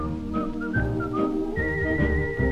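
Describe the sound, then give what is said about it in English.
Someone whistles a bright, stepping melody, the pure tone hopping between pitches before holding a long high note, over a steady musical backing. “Folks say he's crazy, 'cause he keeps whistling the whole day.”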